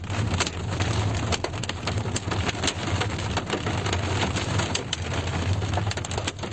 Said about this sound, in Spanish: Dice la gente del lugar que la pedregada era del tamaño de pelotas de golf, de nueces o hasta albaricoques. Así sonaba el granizo pegando en los coches que estaban aparcados en la calle.